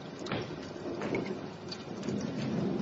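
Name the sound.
heavy rain pouring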